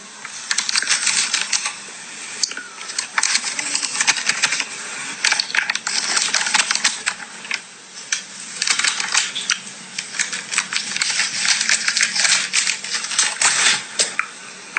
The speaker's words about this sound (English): Rustling paper, is it? Listen. I love the flutters.